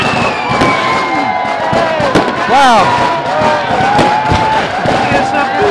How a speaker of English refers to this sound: We have fireworks. We're going to set off the fireworks ourselves.